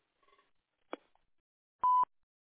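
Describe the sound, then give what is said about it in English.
A single loud, steady electronic beep of an answering machine, short and clean, preceded by a few faint soft clicks and a brief knock in otherwise quiet surroundings. “The purpose of this message is to intercept telephone solicitation, but if you're a friend or giving something away, please leave your name and number if you think I don't already know it after the beep.”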